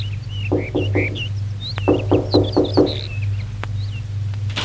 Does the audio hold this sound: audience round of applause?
no